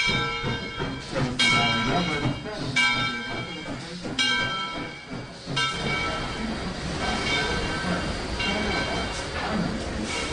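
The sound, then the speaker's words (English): Historic locomotive No. 630, built in 1903 for the Southern Railway, rolls in, its bell clanging steadily about every second and a half, ringing over a continuous rumble of train noise and faint background voices. “Here it is, right on time. This is our new 630 that was created in 1903 for the Southern Railway.”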